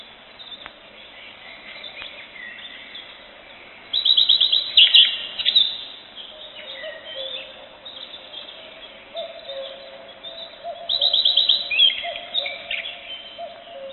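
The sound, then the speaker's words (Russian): A common redstart sings two short, high, trilling phrases several seconds apart, clear, over a soft, steady outdoor background. “Это песня садовой горехвостки.”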